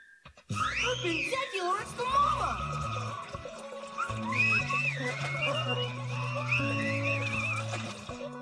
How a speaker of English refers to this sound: Did you hear that? Whistling!